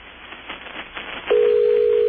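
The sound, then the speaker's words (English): Faint crackly phone-line hiss, then a telephone ringing tone suddenly sounds over the line, a steady, loud, single-pitched buzz that holds to the end, from a call placed through a university phone system to a Weather Bureau office. “That's the sound of a phone ringing in a building that's probably covered with lava right now.”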